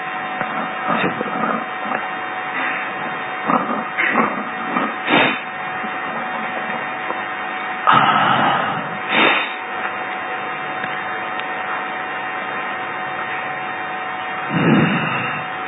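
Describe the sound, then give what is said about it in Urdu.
An electric fan whirs steadily, a continuous droning hum with occasional gusty bursts of air buffeting the microphone; no one speaks. “یہ پنکھا بند کریں بھائی.”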